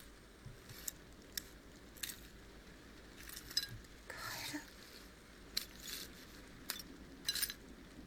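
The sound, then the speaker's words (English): Broken glass or ceramic shards being picked up, with sporadic light clinks and scrapes at an irregular pace, quiet, with no talking. “Yeah, because we all sleep through breaking glass or ceramic or whatever this is.”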